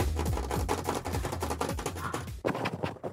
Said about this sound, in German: Es regnet, es prasselt oder vielleicht hagelt es sogar.